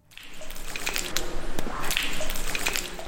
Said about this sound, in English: Water drips from the rocky icicles hanging above the winding chambers of Gough's Cave.